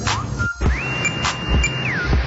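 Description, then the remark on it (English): A Walmart self-checkout scanner clicks a few times at an uneven pace while Great Value product packages with no visible codes are scanned again, with thin high-pitched beep tones and a steady background hum. “So the clicking you hear is all the scanning on these packages, and they are being scanned through again where there is no visible code on the package.”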